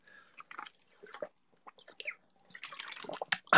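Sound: drinking water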